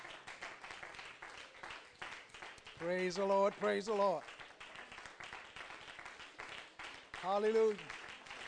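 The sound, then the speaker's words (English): An audience gives God a hand clap of praise during a morning service, a steady, dense crackle of many hands throughout, while voices call out loudly over it twice, once midway and again near the end. “Let's give our God a hand clap of praise this morning.”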